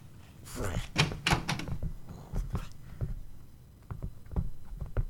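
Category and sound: household object, door slamming shut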